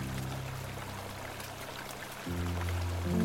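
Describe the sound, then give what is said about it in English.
Creek water flows in a steady, continuous rush, with a low droning undertone that swells louder in the last second. No voices. “When I get to the creek bank, I look to my right.”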